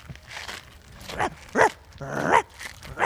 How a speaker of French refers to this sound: Ah, un chien, quelle horreur!